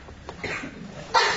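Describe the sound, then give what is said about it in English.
A single abrupt sneeze bursts out near the end during a council meeting, loud and breathy, following a short stretch of faint, low background murmur and a soft intake of breath. “Bless you.”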